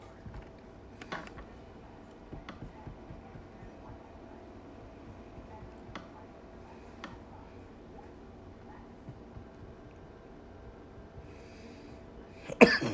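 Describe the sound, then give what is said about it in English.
Scattered short coughs after taking a dab break up a quiet, low background hum, a few faint isolated hacks early on and a louder, harsher burst of coughing right at the end. “Try not to cough.”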